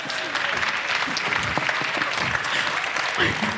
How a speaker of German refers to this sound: Bitte einen großen Applaus für Pico und Ina. Raus mit euch.